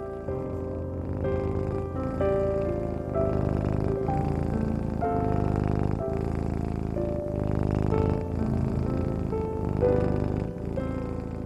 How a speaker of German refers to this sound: die kleine Zauberkatze, rollt sich auf deinem Bauch zusammen. sie schnurrt.